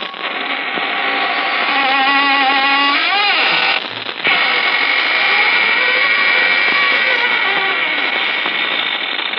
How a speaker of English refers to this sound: This is your host opening the squeaking door for another session of the AGGMS, the Association of Ghouls, Ghosts, and Midnight Spirits.